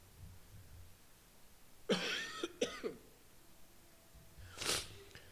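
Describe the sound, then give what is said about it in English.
A cluster of three or four harsh coughs in quick succession, followed after a short pause by one more breathy cough. No one speaks, and it is otherwise quiet. “Dear Heavenly Father, Lord, I pray that through my coughing and distractions.”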